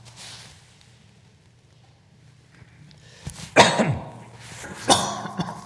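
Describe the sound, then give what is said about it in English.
Two sharp coughs from a speaker at a microphone during a church talk, a little over a second apart, break a quiet stretch with a low background hum. The second is slightly softer, and no one talks. “Terrible when you have a mic and you cough and everyone goes...”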